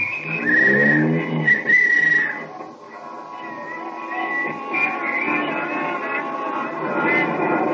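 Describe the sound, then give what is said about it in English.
A taxi cab drives up Broadway through busy city traffic at night, with a steady engine rumble and street noise throughout, and bright horn or whistle tones sounding near the start. “Here's my cab, won't you step in? All right, driver, up Broadway.”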